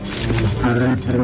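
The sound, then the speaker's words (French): A loud, deep, furious monster roar from up above that snarls on steadily for just over a second, its rough, growling tone shifting slightly in pitch without a break. “J'entends le monstre là-haut. Il est furieux.”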